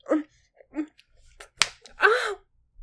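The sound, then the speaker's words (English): A single sharp slap of a hand across a person's face cracks out midway, surrounded by short breathy gasps and vocal exclamations before and after. “Oh my God, you just slapped me across the face.”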